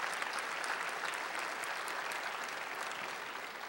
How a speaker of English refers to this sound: Well, don't patty cake. Praise God. Give him a hand clap of affirmation.